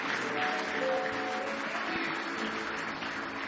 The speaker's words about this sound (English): Give Jesus another hand clap of praise.